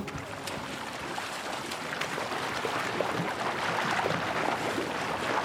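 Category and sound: nature, ocean water and waves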